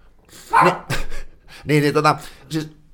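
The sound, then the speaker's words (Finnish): A dog, Toffe, barks in about four short bursts, the sounds moderately loud, tonal and somewhat drawn out, with brief gaps between them. “Nyt tuo koira piästä just.”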